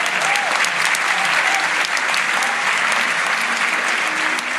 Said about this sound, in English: So it was discussed. Yeah, big round of applause for that, I think.